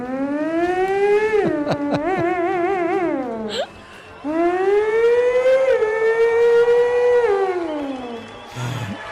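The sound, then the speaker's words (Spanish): A voice imitates a Ferrari engine, sustaining two long revving tones that climb and fall in pitch, the first wavering rapidly before dropping away, with a short pause between them. “De aquí voy a develar un gran secreto que tengo y es hacer un Ferrari.”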